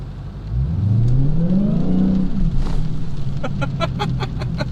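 A car engine set to 500 horsepower revs once with a light touch of the throttle, its pitch climbing steadily for about two seconds before dropping back to a rumbling idle, followed by a quick run of sharp, rhythmic ticking over the engine hum.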